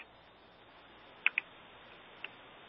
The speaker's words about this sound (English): I can hear him typing.